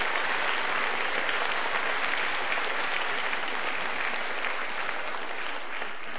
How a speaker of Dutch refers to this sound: Dus we mogen best even voor ze klappen, want dat is heel mooi dat ze dat gedaan hebben.